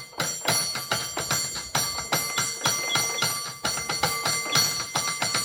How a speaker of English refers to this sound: Now let's hear some more of Val Lupi's ringing the cable car bells.